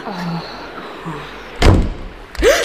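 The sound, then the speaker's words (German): A door slams shut with a heavy thud, followed shortly by a second sharp knock or bang. Faint voices and background murmur precede the impacts. “Ist die Tür hinter dir zugeschlagen?”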